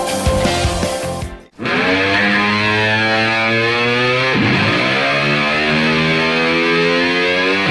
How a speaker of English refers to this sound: Static.